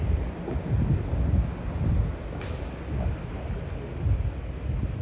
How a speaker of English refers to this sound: And maybe you can already hear a very old tram passing by and a bicycle. Today it's dripping a little.